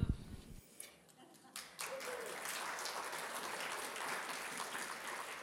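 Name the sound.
audience applause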